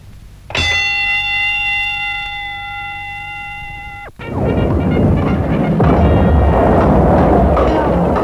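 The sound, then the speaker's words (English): A single loud bell, rung to start a fight, rings out with a sustained metallic tone for about three and a half seconds, then cuts off as a burst of loud, chaotic crowd noise and commotion erupts. “Now, on the bell, we'll fight them.”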